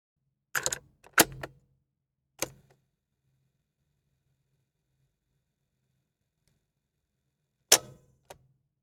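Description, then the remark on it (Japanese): A tape recorder's buttons clunk down in a quick cluster of sharp mechanical clicks, followed by a long stretch of faint running hum, then two more clicks as it stops. “テープレコーダーです。”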